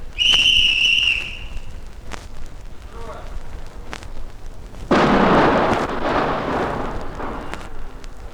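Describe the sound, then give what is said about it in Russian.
A high warning whistle sounds first, followed a few seconds later by a loud, sudden explosion from blasting a tunnel through a mountain at Nurek, whose roaring, rumbling debris noise slowly fades over several seconds. “Взрыв был замечательный.”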